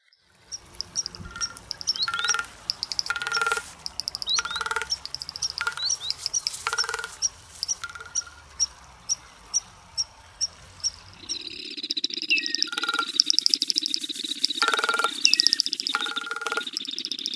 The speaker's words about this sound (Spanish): Y aquí va un espacio más de cantos de nuestras aves.